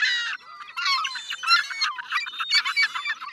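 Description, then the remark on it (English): Loud, harsh screaming calls of American herring gulls in rapid, overlapping bursts, several birds crying without pause, no talking. “With white and gray feathers, a piercing stare, and noisy screams, the American herring gull is what most folks might call a seagull.”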